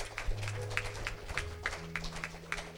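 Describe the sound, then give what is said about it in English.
A church audience gives a hand clap of praise to the Lord on Father's Day, clapping in a steady, fairly quick rhythm, with sharp bright claps repeating about three times a second over a low, sustained instrumental drone. No one speaks. “So let's just give the Lord a hand clap of praise one more time.”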